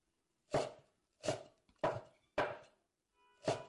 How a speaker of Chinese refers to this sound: 怎么，这么喜欢看姐姐切菜吗？好看。觉得好看的话，那你就看着吧。